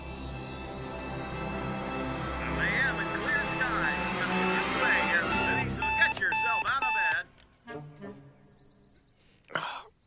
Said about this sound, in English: turns off an alarm clock.